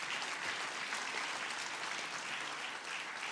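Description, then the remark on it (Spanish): An audience applauds steadily to give glory to God, a dense wash of many hands clapping at once, sustained and even for the whole stretch with no voices standing out. “¿Cuántos dan gloria a Dios? Dale fuerte aplauso, Señor.”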